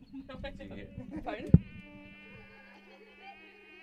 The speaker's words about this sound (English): Is that a bee? A mosquito.